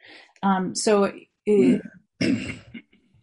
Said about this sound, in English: No, I was just clearing my throat.